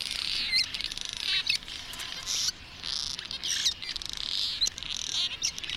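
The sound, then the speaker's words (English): A dense chorus of many birds calling at once, with overlapping high, bright chirps and twitters forming a continuous busy wash, punctuated by sharper individual calls. No one speaks. “So when one bird finds a swarm of insects, it spreads the word to its neighbors.”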